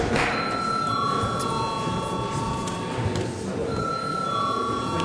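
A parliament session bell rings continuously for about five seconds, a loud, steady electric clang with a bright, shrill metallic tone and no pauses, sounding alone without any voices. It is rung at the chair's request as the debate breaks for a recess.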